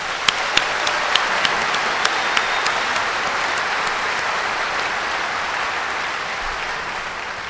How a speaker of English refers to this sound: I want to thank this committee that we just had a beautiful dinner together and to hear how hard this committee has been working. I'd love you all to give a round of applause to them.